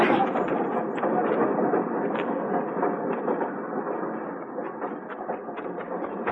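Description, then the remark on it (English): A train rumbles steadily along, a dense, continuous roar with sharp clacks and rattles scattered through it, staying fairly loud and even throughout, with no voices. “Get on the train, Flora.”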